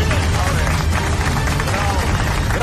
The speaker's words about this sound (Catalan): Gràcies. No, per favor, gràcies. No, els hi ha demanat els aplaudiments i la gent és educada. No calia.